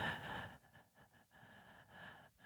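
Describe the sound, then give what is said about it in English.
A person imitates quick, shallow breathing: a sharp inhale followed by several short, choppy breaths in an uneven rhythm, with no talking. “Or a little bit of the shallow breath.”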